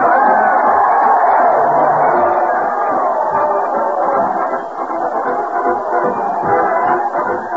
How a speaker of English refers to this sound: That crowd cheers Fred Allen as he heads his weekly parade to the old town hall.